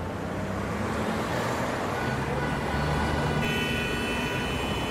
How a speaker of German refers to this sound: manövrieren sich Gerardo und Thiago durch den dichten Verkehr der Innenstadt Sao Paulos